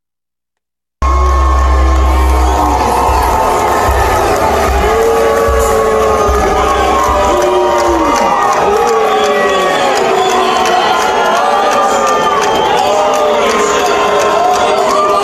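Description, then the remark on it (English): A large crowd at a political rally in Georgia boos Governor Kemp loudly and continuously as he tries to give a speech, with overlapping jeers and shouts swelling in waves, dense throughout. “Governor Kemp's a terrible person, and these people were booing him because he refused to like basically overturn the fucking results of the election.”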